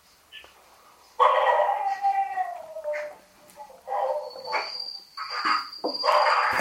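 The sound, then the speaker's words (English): Dogs howl in long, drawn-out cries that slide downward in pitch, followed by several shorter howling bursts, loud, with a thin steady high whine like insects in the background. “Is that your pet dog, is it?”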